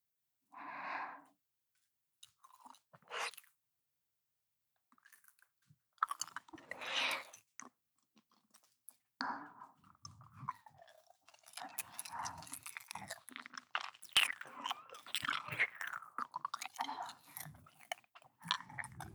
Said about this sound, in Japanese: 君の耳をベロベロしたらどうなっちゃうんだろう。ちょっとだけ舐めてみていい？